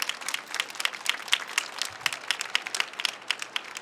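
An audience at the Leipzig Book Fair applauds steadily on the ARD stage, welcoming a guest to an interview: a dense wash of overlapping claps with crisp, rapid individual hits, sustained at moderate loudness throughout with no voices.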